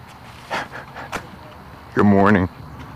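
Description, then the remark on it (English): A small Scottish terrier pants outdoors in the morning in a few quick, breathy huffs, followed by a short voiced sound over a quiet outdoor background. “Oh, here comes my friend with the Scotty dog.”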